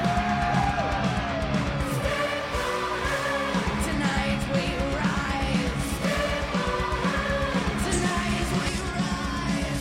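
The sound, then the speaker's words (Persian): A child screams harsh, metal-style vocals over loud, dense heavy metal music, performing the final scream of the song, the strained yelling rising and falling continuously for the whole stretch without a break. “حسابی فریاد بزن بچه جون.”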